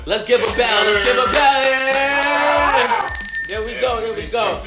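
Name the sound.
bell ringing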